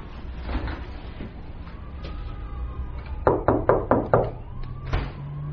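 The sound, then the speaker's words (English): Five firm, evenly spaced knocks on a door come in quick succession, loud, while a faint siren wails. “Why didn't you get the door? I'm not supposed to answer the door for strangers.”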